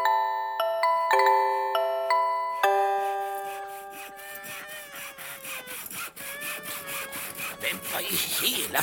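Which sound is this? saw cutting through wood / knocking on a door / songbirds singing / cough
saw cutting through wood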